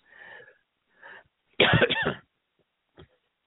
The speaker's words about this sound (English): Sorry for the coughing. Got a throat issue.